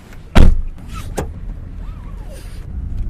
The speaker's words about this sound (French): Il fait nuit à Managua et la voiture d'Éric Murillo roule vers une destination dont il ne donnera pas l'adresse